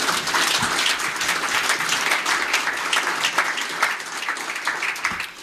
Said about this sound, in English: So it is my honor to submit to the City Council a naming of the basketball courts at Delaware Park, the Mayor Anthony M. Masiello basketball courts. And you can clap on that again.